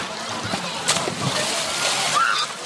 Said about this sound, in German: Ein Sprung ins kühle Wasser, das war und ist in diesen Tagen in ganz Tschechien wohl einer der erquicklichsten Glücksmomente.